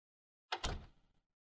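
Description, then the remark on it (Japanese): A door swings shut: a quick latch click followed at once by a solid thud, with a short rattling decay before silence. “はあ、ドア閉め忘れてたわ。”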